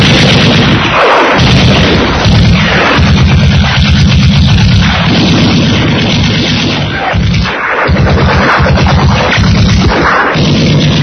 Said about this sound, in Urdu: اب دشمن نے سامنے اور دائیں طرف سے خودکار ہتھیاروں کے ذریعے فائر تھوڑ دیے.